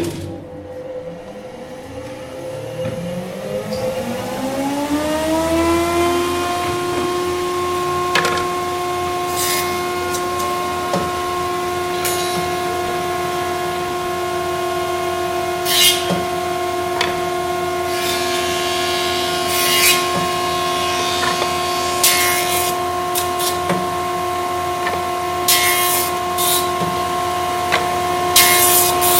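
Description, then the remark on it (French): A jointer whirs up to speed, then holds a steady hum while truing a piece of wood after it was cut on a band saw, with repeated harsh bursts of cutting noise as the board passes over the blades. Loud, with no talking. “Donc après la découpe à la scie à ruban, on va dresser une pièce de bois avec une machine qu'on appelle la dégauchisseuse.”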